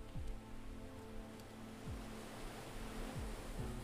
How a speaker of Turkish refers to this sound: Yattığı yerden gökyüzünü aydınlatan yıldızları, başını yana çevirdiğinde ise sahile vuran dalgaları görüyordu.